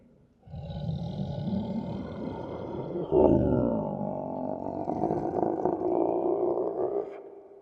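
A deep, sustained Godzilla-like roar with an infrasonic part, made by a performer before 20,000 people at Madison Square Garden in New York. It lasts several seconds, loud, with a heavy low rumble underneath and a harsh, grinding texture that swells briefly partway through before cutting off.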